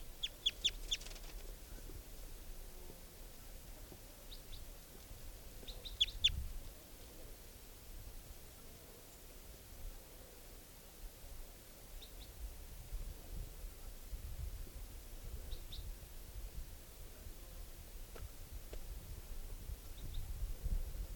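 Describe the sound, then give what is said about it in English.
Thin, high-pitched bird chirps from a juvenile wild type 2 bird come in short scattered bursts, clustered at the start and then sparse, over a steady low hiss and faint rumble. “Recording the wild type 2 juvenile.”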